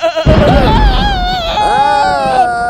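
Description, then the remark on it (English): Goats bleating loudly, several wavering, quavering cries overlapping one after another in a continuous burst with no pauses. “Okay, once upon a time, it was raining in a dark cave and there was a trailer full of goats.”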